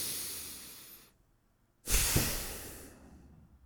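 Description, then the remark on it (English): A long, airy inhale, a big breath filling right up like a bow and arrow breath, fades into a brief pause, then a strong, breathy exhale bursts out and slowly trails off. No one speaks. “And so you bring in a big breath and you fill right up, maybe like a bow and arrow breath, you might have heard that.”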